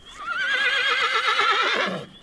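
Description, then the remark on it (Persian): A single loud horse whinny with a quavering, vibrato-like pitch that rises and wavers for about two seconds before trailing off into a short snort. “اسب شیهه کشید.”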